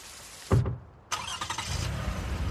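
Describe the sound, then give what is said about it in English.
A standard (manual) car's engine turns over with a short burst, pauses, then catches and roars to life, settling into a steady, low rumbling idle with some rhythmic pulsing. “Here are my keys. I've had a few. Don't worry. I can drive a standard.”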